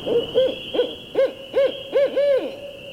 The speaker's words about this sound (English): I'd paint in the lift for hours and hours, oblivious to the passing time, until the caterwauling calls of a barred owl, like a giant squeegee being dragged across a window, echoed through the lobby and interrupted my reverie.